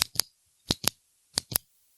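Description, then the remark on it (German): Fingers rubbing over a ballpoint pen, producing three evenly spaced pairs of crisp, scratchy clicks with brief silences between them and no talking. “Warte, ich mach kurz mein Kuli ASMR.”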